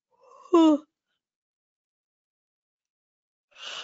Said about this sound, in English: And when I yawn like that, it's really the energy changing.